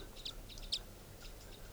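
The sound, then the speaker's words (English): Short, high-pitched crossbill calls chip out a few times over about two seconds from the treetops along a road near a campsite. They are sharp single notes with brief gaps, faint against a low steady background rumble. “Recording, I've been walking down the road here near the campsite, and I happened to hear crossbills up in the treetops of the road.”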